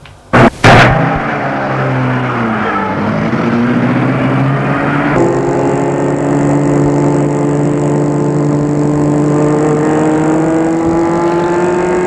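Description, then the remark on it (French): A doctor starts a small white car: the engine cranks and catches with a quick burst, then settles into a steady, loud hum that rises in pitch as the car pulls away and keeps driving. No one speaks. “Le médecin entre dans la voiture et la met en route.”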